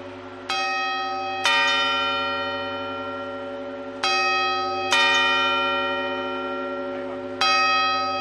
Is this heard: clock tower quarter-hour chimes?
yes